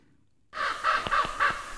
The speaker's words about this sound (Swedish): Ja, nu har vi varning för korp. Så då har det hänt att vi får något mer besök.